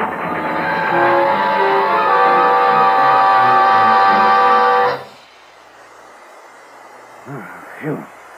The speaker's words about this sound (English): Something's wrong. The train's beating the rails. What happened? Wait. Brakes are on already. Look out. The caboose is tipping. Grab something.